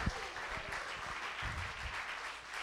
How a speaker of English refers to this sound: Would somebody give the Lamb of God a hand clap of praise?